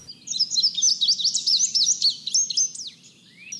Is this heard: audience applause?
no